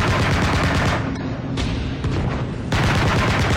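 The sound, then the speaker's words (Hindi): Anti-aircraft guns pound in rapid, continuous bursts during an air attack, loud and dense with thunderous booms layered over one another, a brief lull in the middle before the barrage surges back. No voices are heard. “जब ये हमला हो रहा था विंग कमांडर कुरियन अपने घर से सटे गैरेज में अपनी गाड़ी पार्क कर रहे थे, उन्हें अचानक विमान भेदी तोपों के गरजने की आवाज सुनाई दी।”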